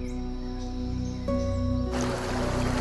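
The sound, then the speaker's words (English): Steady rushing creek water, constant, mixed under a sustained droning musical tone, with the water's broad hiss growing fuller and louder toward the end. “She shifts to a sitting position and stares down at the rushing water.”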